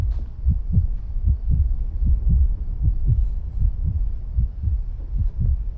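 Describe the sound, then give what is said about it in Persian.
A steady heartbeat thumps in an even rhythm, each deep muffled beat following the last at a slow, unhurried pace, prominent with no voices present. “ضربان قلبت هیچ وقت بالا نمیره.”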